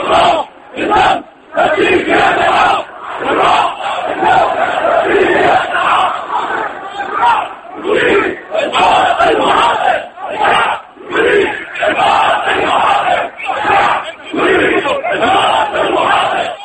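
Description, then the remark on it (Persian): A large crowd of protesters in Syria chants freedom slogans after Friday prayers, in support of protesters in Daraa, in loud, rhythmic bursts of many voices, with short pauses between repeated phrases that rise and fall in unison. “روز جمعه پس از برگزاری نماز جمعه دست کم 7 شهر سوریه از جمله دمشق پایتخت شاهد برگزاری تجمعات اعتراضی مردم بود، تجمعاتی که در آن مردم شعار آزادی سر می‌دادند و از معترضان در شهر درعا حمایت می‌کردند.”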